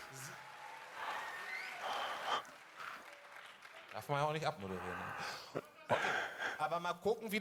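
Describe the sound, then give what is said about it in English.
Subdued studio audience applause for a team in an applause-meter vote, a soft scattered clapping for a few seconds, then voices come in and talk over the fading claps. “Etwas verhalten. A little more quiet.”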